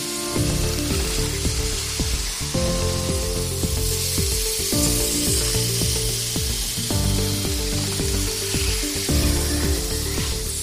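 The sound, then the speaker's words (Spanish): A machine that bakes flour-and-water dough into wafers for Mass at the Cistercian monastery of San Bernardo on Calle Los Pisones runs with a steady, loud sizzling hiss and gives off heavy steam, punctuated by repeating mechanical clacks and thumps in a regular cycle of roughly two and a half seconds. No one speaks. “Así suena la máquina que cuece la masa de la harina y el agua.”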